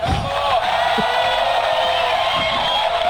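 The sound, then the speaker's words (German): A loud sound effect from a yodel machine, a handheld device that looks like a walkie-talkie with various buttons for different sound effects, plays for about three seconds: a dense, steady roar like a cheering, shouting crowd, holding the same volume throughout with no talking over it. “Der Mann hatte Jodelmaschine dabei. Das ist quasi also wie so Walkie-Talkie sieht es aus mit verschiedenen Knöpfen, wo du verschiedene Sound-Effekte drauf hast”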